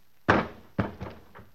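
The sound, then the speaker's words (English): A man who has been shot drops to the floor with a heavy thud, quickly followed by a second impact and a couple of softer bumps as the body settles. “His mouth opened like he had something to say, and then he dropped.”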